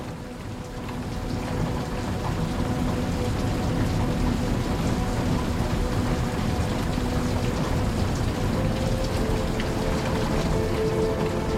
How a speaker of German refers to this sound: Das gleichmäßige Prasseln der Regentropfen macht dich schläfrig.